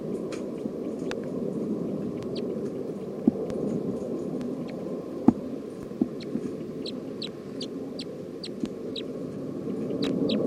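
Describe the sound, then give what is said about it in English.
Short, high-pitched chirps from a recording of bird 310 come in scattered bursts, thickening toward the end, over a steady low rumbling background with a few sharp knocks. No one speaks. “Recording bird 310.”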